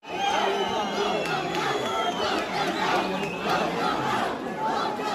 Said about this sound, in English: So the yelling you're hearing there is "Vote them out." Parents at that meeting were apparently upset over LGBTQ-themed books.